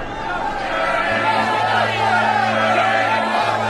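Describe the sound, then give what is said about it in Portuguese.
A crowd that has come to ask Pilate to free a prisoner, as was the custom, murmurs throughout, a steady, dense babble of many indistinct voices at an even level, with a low continuous hum joining in about a third of the way through. “A multidão veio e começou a pedir que, como era o costume, Pilatos libertasse um preso.”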